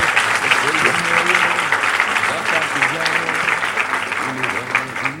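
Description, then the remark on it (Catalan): An audience applauds steadily for about five seconds for four film editors of a series, a dense, even patter of many hands clapping with a few voices murmuring and calling out underneath. “Un aplaudiment.”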